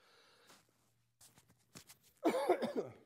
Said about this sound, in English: I have to cough into the microphone.